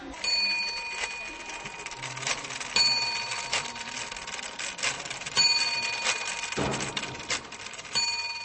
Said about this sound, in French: Et maintenant, je vous invite à pousser la porte du Musée des Arts et Métiers de Prague, rue du 17 novembre, pour retrouver le fameux tic-tac du coucou de nos grands-mères, et plus encore.